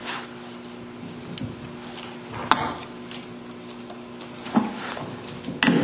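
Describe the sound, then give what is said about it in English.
A preacher taking a drink of water during a sermon: a few sharp clicks and clunks at irregular intervals, like a glass or bottle being handled, over a steady low electrical hum, with no talking. “Give me that water right there, will you?”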